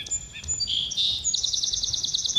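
Birds chirp in an outdoor field recording: a few high whistled notes, then a rapid, steady trill of repeated chirps continuing to the end over a low background rumble.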